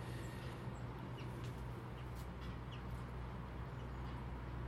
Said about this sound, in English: I'm standing in below the shed because there's so many birds down at feeders. I don't want to go across here and disturb them.